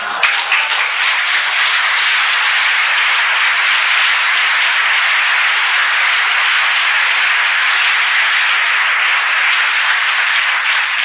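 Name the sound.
audience applause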